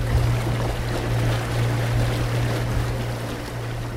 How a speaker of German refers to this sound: Mit einem Motorboot besucht der Heiler regelmäßig die 20 bis 30 Inseln in Afrikas höchstgelegenem See.